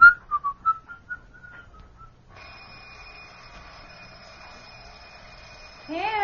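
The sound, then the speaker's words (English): Someone whistles a short tune, then an alarm clock rings with a steady, buzzing tone for several seconds, fairly loud, before being abruptly interrupted at the end; the alarm is meant to wake someone to get up for work. “Didn't you hear the alarm? Get up, you'll be late to work.”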